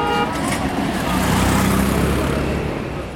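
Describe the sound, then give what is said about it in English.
Car horns honk over a dense rumble of chaotic road traffic in India: a short toot at the start, then a longer, steadier blast in the middle, all amid constant engine noise. “The roads are total mayhem. Drivers ignore lane markings.”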